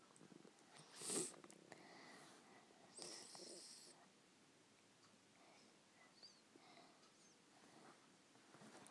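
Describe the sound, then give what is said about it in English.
A voice imitates a cat purring with two short, breathy rumbling bursts in the first few seconds, moderately loud, then fades to quiet. “Noise the cat makes.”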